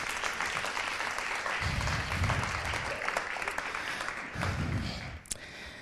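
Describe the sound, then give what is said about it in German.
An audience applauds the guests of a panel steadily for about six seconds, a dense, even wash of many hands clapping that swells slightly in places before tapering off near the end. “Genau, nochmal einen herzlichen Applaus für alle Gästinnen bitte.”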